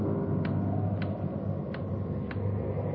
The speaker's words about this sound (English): Loud clock, ain't it?